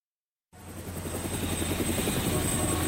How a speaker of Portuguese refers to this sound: Helicóptero CBN.